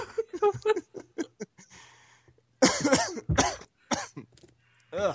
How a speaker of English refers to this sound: Aside from Halo 5 and almost killing yourself by coughing.